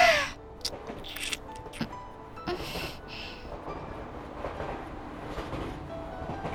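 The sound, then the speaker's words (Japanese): An electric train rattles steadily along the tracks, a continuous low rumble with clattering and a few sharp squeaks near the start. No one speaks. “電車がガタゴトと揺れる中、私たちは指を絡め、何度もキスをする。”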